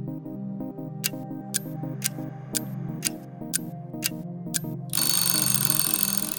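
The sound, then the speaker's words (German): A clock ticks steadily about twice a second over a soft tonal hum, then a loud, rattling alarm bell bursts in near the end and keeps ringing. No one speaks. “Wie wäre es eigentlich, wenn kein Wecker morgens klingeln würde, wenn wir vom Sonnenlicht geweckt würden?”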